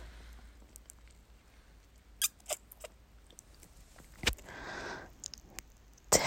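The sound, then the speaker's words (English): A quiet stomach growl: soft squeaky clicks and wet squishes, then a brief burbling gurgle swelling and fading near the end, with no talking. “Did you hear that? My stomach is growling.”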